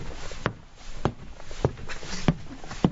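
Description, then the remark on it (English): Five slow, evenly spaced thuds imitate footsteps coming up a staircase as a sound effect, each step a dull knock about half a second apart, fairly soft, with no talking. “Sorry, a little sound effect. We heard the footsteps coming up the staircase.”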